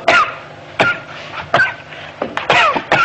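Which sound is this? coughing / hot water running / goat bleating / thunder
coughing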